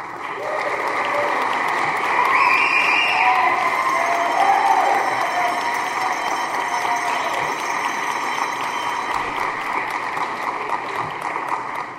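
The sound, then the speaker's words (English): A crowd claps steadily for about twelve seconds as the audience welcomes the candidates at a candidate forum for state representative, a dense, even wash of applause with some cheering and whoops rising in the middle before it holds level to the end. “I will serve as timekeeper, and I ask our audience please to refrain from applause during the forum, except for now when we welcome our candidates.”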